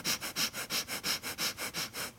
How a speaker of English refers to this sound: One is made with the jaw held low, that's the H sound, and one is made with the jaw elevated so that the mouth is actually closed, and that's sniffing.